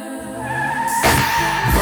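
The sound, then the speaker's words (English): A car reverses, then its tires squeal and skid as it pulls away fast, a loud burst of rushing engine noise that swells midway and keeps roaring to the end, with no one speaking. “Car reverse, now I'm mashing”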